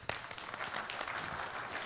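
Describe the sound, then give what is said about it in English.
A burst of crowd applause for a presenter giving a talk, many hands clapping in a dense, steady wash that starts sharply and holds at a fairly even level for a couple of seconds. “Let's hear applause for me.”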